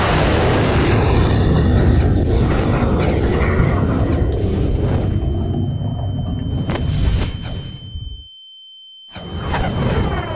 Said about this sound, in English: A sonic wave of pure force throws back the remaining combatants throughout the room, as if picked up by a massive ocean wave.